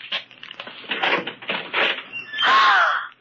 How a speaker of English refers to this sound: Open that closet door.